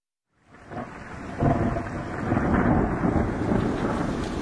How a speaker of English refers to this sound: The 15th of October, 1666. A very rainy morning.